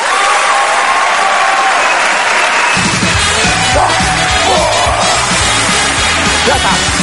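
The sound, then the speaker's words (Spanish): A large stand-up comedy audience applauds loudly and steadily, with scattered cheers and whoops rising over the clapping, welcoming comedian Dani de la Cámara; partway through, a pulsing musical beat kicks in underneath the applause. “quiero que recibamos con ese aplauso, o uno incluso mejor, al gran Dani de la cámara.”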